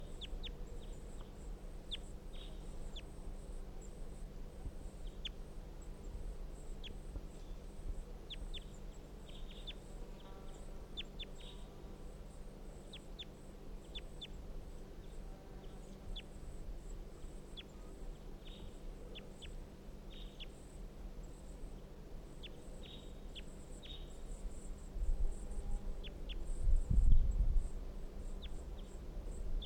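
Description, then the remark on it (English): Wild bird calls from a bird labelled 350, being recorded, sound repeatedly as short, high chirps scattered through the whole clip over a steady low hum, with a brief louder low thump near the end. “Wild bird stop. So recording bird 350.”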